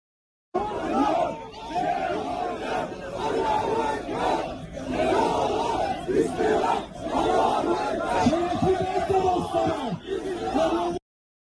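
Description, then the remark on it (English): A large protest crowd gathered near the Israeli consulate in Turkey chants and shouts together, a dense roar of many voices rising and falling in rhythmic waves, loud and continuous for about ten seconds. “Now to Turkey, where a large crowd gathered near the Israeli consulate.”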